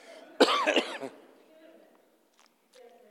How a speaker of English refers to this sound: I'm still coughing.